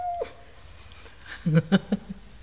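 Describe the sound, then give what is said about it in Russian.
A voice imitates a cat's meow with a few short, clipped cries in quick succession, fairly loud over a quiet background, after a brief faint tone at the start. “Ты, жена моего врага, скажи, не видала ли ты корову? Мяу!”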